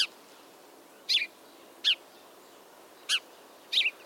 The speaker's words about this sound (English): Those Disneyland birds were house sparrows. I remember them chirping and begging me for French fries, as is the custom of their kind.